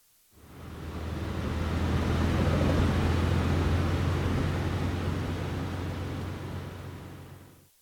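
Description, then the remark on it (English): A car drives along steadily, a constant low engine drone under a broad wash of road and wind noise that fades in, holds for several seconds, then fades out. No voices. “She runs downstairs to the car.”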